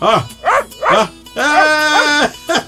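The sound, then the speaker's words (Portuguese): A small pet dog named Caroço yaps three times in quick succession, lets out a long drawn-out whining howl, then gives one final short yap, all loud with no other sounds around. “Meu cachorrinho de estimação, caroço, senhor.”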